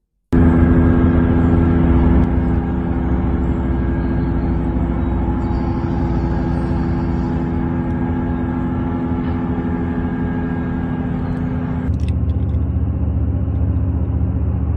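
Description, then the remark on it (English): A steady, loud industrial drone with a deep low rumble and layered tonal hum, constant throughout with a slight shift near the end, the noise of a data center heard from half a mile away at 1 a.m. “This is what it sounds like living half a mile away from a data center.”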